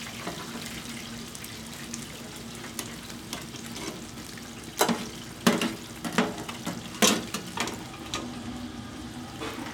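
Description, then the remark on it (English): Chicken wings sizzle in hot frying grease with a steady crackle as they are pulled out of the grease, broken by a handful of louder hissing bursts in the middle stretch before settling back. “These are our wings. I'm just pulling them out of the grease.”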